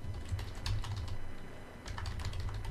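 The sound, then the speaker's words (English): Steady typing and backspacing on a computer keyboard, a quick run of key clicks that pauses briefly before resuming, with a low hum underneath and no voices. “Could be hearing me typing and backspacing.”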